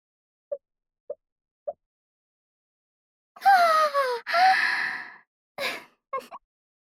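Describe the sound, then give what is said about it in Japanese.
Three soft plopping taps, then a fizzy hiss as a carbonated drink is opened for a toast, followed by a long breathy sip and a few short gulping exhales, fairly quiet, with no talking. “炭酸飲料っておいしいんですね。”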